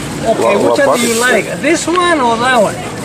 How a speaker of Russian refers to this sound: Вот тут под зонтиком товарищ надувает такие шарики. Дети очень любят. Вот видите, такие маленькие стоят и смотрят на него.